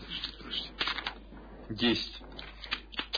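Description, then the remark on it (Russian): A die is rolled for a dodge and rattles and clatters across a hard surface in a quick burst of sharp clicks, with a brief murmur of voice partway through. “Еще никто не ворвался, ты просто кубик кидай на уворот.”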